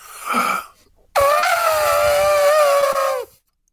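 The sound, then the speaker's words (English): A person imitates an elephant's trumpet: a short breathy lead-in, then a loud, sustained, brassy vocal blare lasting about two seconds, wavering slightly and sliding downward before cutting off. “It's a good elephant.”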